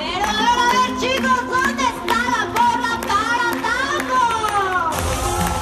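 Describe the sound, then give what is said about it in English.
A dense crowd of about 600 people at an outdoor dolphin show amphitheater overlooking a small pool at Six Flags in Mexico City, many overlapping voices including excited children chattering and calling out, loud and continuous throughout, with a brief burst of noisier hubbub near the end. “Pop music booms across an outdoor amphitheater overlooking a small pool, and an MC pumps up the crowd.”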